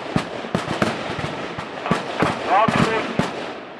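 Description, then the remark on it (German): Rifle shots crack out in a rapid, irregular volley at the traditional Rütli shooting contest on the Rütli meadow in Switzerland, where 1152 marksmen can take part, about a dozen sharp reports overlapping one another, with a faint voice audible between them. “1152 Schützen sind es, die am Rütli-Schießen teilnehmen können.”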